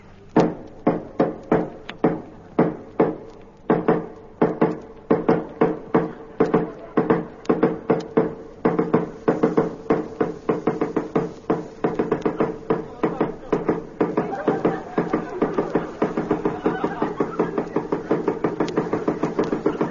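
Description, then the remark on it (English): Relentless knocking on a house door, dozens of sharp, fairly loud raps in quick uneven bursts that speed up and blur into a near-continuous pounding toward the end; the knocker says they knocked 6,000 times. “I knocked 6,000 times.”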